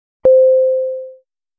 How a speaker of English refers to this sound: In this lesson, we are going to learn 5 new vocabulary words. Each word comes with its definition and its sample usage. Each word is separated by the chime sound.